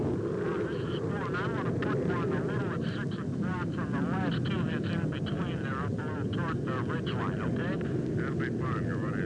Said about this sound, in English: Here comes the next one now, number three. Marine jet. Exploding on the hilltop. Tremendous pour of flame. We heard the concussion. About 400 meters from where we're at right now. He came in right on the treetops